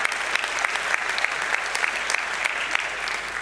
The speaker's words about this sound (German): Ja, kann man auch mal klatschen.